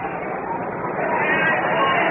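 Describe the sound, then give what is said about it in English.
A dense wash of crowd chatter at a baseball stadium during a Giants game with close to a capacity crowd, many overlapping voices blending into a steady, fairly loud murmur with no single words standing out. “This is going to be very close to a capacity crowd today.”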